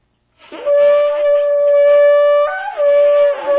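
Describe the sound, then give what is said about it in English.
A shofar is blown in one long, loud, reedy blast lasting about three seconds, with a squeaky, breathy edge and a brief wobble and pitch break near the end. No one speaks. “he blew that shofar so everyone could hear that the sacrifice is being offered”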